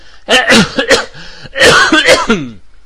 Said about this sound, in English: But I'll do a fake cough. Here goes. It's a reenactment of a cough that I did earlier while I was on pause.